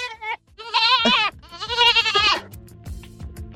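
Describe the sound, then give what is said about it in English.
A young goat bleats loudly, three wavering, high-pitched cries in quick succession, followed by softer shuffling and faint background noise. “It is a baby goat.”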